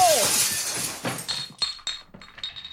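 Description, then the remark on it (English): A glass door smashes in a loud crash of breaking glass that bursts out at once, followed by a scatter of smaller shards tinkling and clinking as they fall for a couple of seconds. “Watch out for that glass door.”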